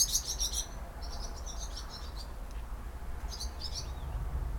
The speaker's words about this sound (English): Springtime has been really great for the birds here. So Japan sits on a pretty major trans-Pacific bird route for the migratory birds in the world. So they'll stop by, you know, every season has its different set of birds.